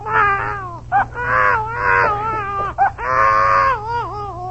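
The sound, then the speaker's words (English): A baby wails in long, strained bursts, pausing briefly for breath between each loud, high-pitched cry. A low, steady hum runs underneath, and no one speaks. “Senorita, if you sing the baby a lullaby, it will put him to sleep.”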